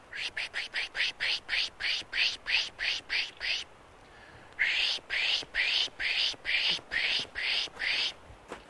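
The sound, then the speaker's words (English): While birding, someone pishes, making a rapid series of breathy, hissing 'psh' bursts with the mouth to imitate a bird's alarm chatter, pausing briefly midway before resuming the steady rhythmic pulses. “So you just make sort of an alarmed call of a bird by just making a chattering noise, a pish, with your mouth like this.”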